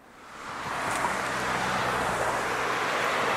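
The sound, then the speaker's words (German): Loud, steady roar of heavy road traffic on a busy feeder road to the motorway, swelling up in the first second and then holding as a dense, continuous wash of passing vehicles with no talking. “Geh in Richtung der lautesten Stelle im Verkehr hier irgendwo, also Kreuzung oder sowas”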